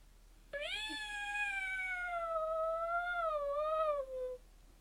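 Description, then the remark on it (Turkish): A single long, drawn-out cat meow lasting several seconds, loud, with a slightly wavering pitch that dips and rises before trailing off. No talking. “Bunun için bir örnek kedi dinlemeliyim.”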